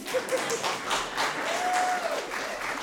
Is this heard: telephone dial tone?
no